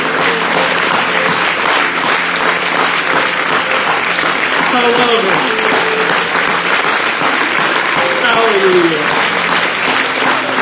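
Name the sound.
audience clapping and cheering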